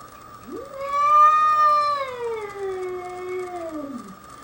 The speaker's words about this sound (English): By the way, this is a bobcat.